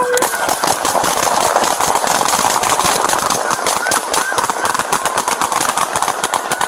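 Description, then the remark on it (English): Heavy, rapid gunfire from police officers crackles nonstop, dozens of loud shots overlapping in a dense, ragged burst that barely lets up for several seconds, with a faint mechanical hum underneath. “Heavy gunfire in rapid succession ensues.”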